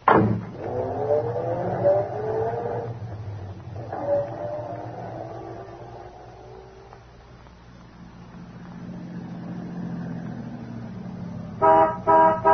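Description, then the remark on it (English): Lord Henry's car engine rumbles as the vehicle rolls up and idles, then its horn gives a couple of short, loud honks at the end. “Lord Henry, I didn't see your car pull up.”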